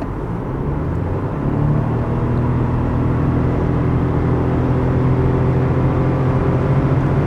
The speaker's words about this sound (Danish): Og nu prøver jeg så at træde speederen i bund og accelerere til 110 km i timen.